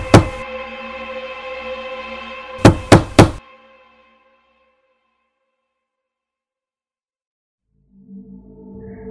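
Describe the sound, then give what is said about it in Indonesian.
Three loud, sharp knocks on the door of a rented boarding-house room land in quick succession after a sustained ringing tone, followed by several seconds of silence and then faint low music. “Tiba-tiba, terdengar suara ketukan pintu yang cukup keras sampai membuatku terbangun.”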